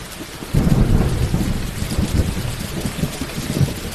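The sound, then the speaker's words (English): Heavy rain pours down on a forest in a dense, steady roar while low thunder rumbles through it, swelling loudly after a moment and rolling on without any voices. “It comes at you like a wall of water.”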